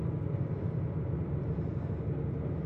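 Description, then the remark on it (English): A boat engine heard at night from inside a dark cabin bunk about 6.5 feet long drones steadily. It is a dense low rumble with a faint higher hiss, holding an even loudness throughout without pauses or voices. “The only thing is the noise of the engine, alright.”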